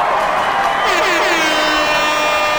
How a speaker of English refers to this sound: Give us one more round of applause.